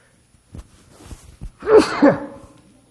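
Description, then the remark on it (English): A single loud sneeze, a quick breathy build-up with a few small catches of breath, then a sharp voiced two-part burst before it fades to quiet. “Do not say bless you.”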